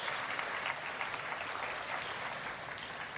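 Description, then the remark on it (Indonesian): Sustained applause from a crowd for Jesus, a dense steady wash of clapping that holds at an even loudness for several seconds with no talking over it. “Tepuk tangan yang paling meriah buat Yesus.”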